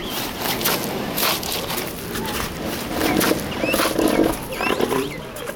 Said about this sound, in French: Il y a de la tension dans l'air. Plusieurs mâles grognent dans les parages. Je ferais mieux de me déplacer. Je n'ai pas envie de me faire écraser si l'un d'eux se décidait à charger.